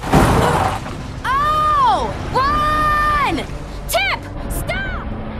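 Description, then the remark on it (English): A heavy, crunching crash of a car landing bursts out right at the start, followed by a series of long, rising-and-falling whining tones and a couple of shorter chirps. “The car lands.”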